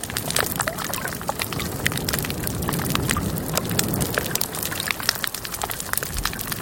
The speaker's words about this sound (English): a recording that was made underwater in October 1995 at a reef about 400 yards long. This part of the coral reef was quite alive, and you can hear many types of fish, damselfish, clown parrot, pufferfish, cardinals, goat, butterfly fish. Here's that.